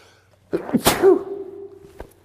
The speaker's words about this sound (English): Have you ever had a sneeze that you've been waiting and waiting and waiting for it to come? Oh man, I'm glad that is over.